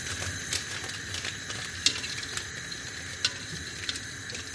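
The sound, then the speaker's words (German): A steady, bright hiss runs throughout while sharp, dry clicks snap out roughly every half second to second as a gas stove's igniter ticks to light a burner for soup. No one speaks. “Heute kochen wir auf Gas. Das hören Sie bestimmt.”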